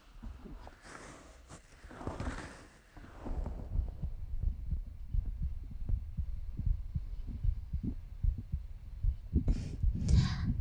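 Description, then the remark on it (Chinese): Close, muffled heartbeat thumping in a steady rhythm, as if heard with an ear pressed to a chest, preceded by brief rustling of fabric and another rustle near the end. “你想听我的心跳吗？好吧，来，把耳朵枕到我的胸上来。”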